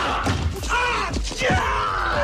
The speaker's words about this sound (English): It'd just be like Marv from Home Alone. That's the kind of scream I'd be doing.